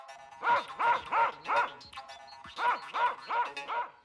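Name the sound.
dogs barking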